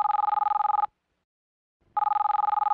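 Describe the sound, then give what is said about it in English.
A cell phone rings in a rapid electronic trill, two bursts separated by a second of silence, loud, with no voices. “On Wednesday, Grace called Andy's cell phone.”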